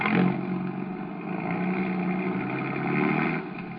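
A car engine hums and rumbles steadily, swelling slightly as it revs and pulls away, with no voices over it.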